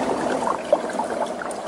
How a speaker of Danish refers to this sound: Nu får du lige en anden lyd. Det her, det er nemlig lyden af en gletsjer, der smelter.